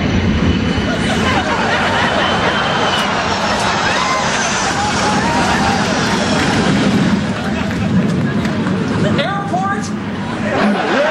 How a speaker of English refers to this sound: Yeah, but the neighbors say they don't even hear the planes anymore. That's because they're deaf!